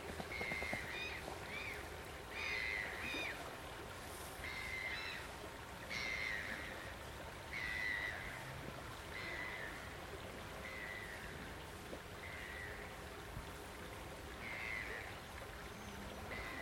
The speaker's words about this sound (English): Welcome to the peaceful River Severn. It's in the Wye Forest. Standing right on the riverbank. The river's flowing quite fast.